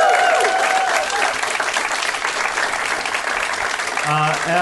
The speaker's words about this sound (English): Could we have a big, massive round of applause for the Glee Club? Thank you for having us.